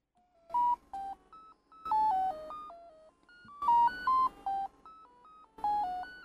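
Rapid runs of random electronic tones, set off by a device's second button, hop unpredictably between higher and lower pitches. They come in four bursts separated by short pauses, with no voices.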